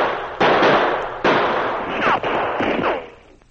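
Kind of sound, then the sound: sound effect, gunshot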